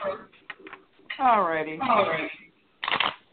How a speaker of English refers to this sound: I'm shuffling the cards. When you feel that I have shuffled enough, say the word stop.